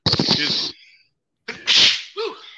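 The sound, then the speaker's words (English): Two loud sneezes about a second and a half apart, each a sharp breathy burst; the second is followed by a brief voiced exhale. “Bless you. Thank you.”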